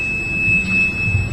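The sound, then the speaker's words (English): A telephone emits a steady, high-pitched electronic tone that holds unbroken for the whole moment, fairly clear above a low, murmuring background rumble, with no talking. “I apologize about the phone.”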